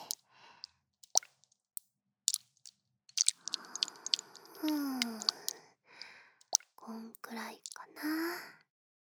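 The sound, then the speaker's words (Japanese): Wet squelching and sticky clicks as cool water putty is squeezed and kneaded in the palm of the hand to warm it, in irregular bursts with longer squishy stretches, alongside faint breathy whispering. “まずは自己水パテのひらに。ひんやりしすぎんよ、温めて。”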